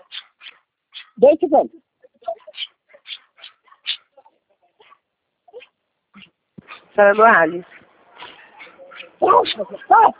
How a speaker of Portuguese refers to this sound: A barulheira de cachorro